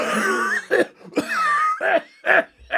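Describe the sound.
A person imitates a harsh, hacking cough with their voice, a string of about six loud, rasping bursts in an uneven rhythm, some drawn out and throaty.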